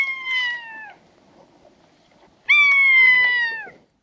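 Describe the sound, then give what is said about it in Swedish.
Two drawn-out mewing calls of a common buzzard, each sliding slightly downward with a nasal, raspy tone; the second is louder and longer, with a quiet gap between them and no talking. “Ormvråkens jam har ofta en både nasal och raspig karaktär.”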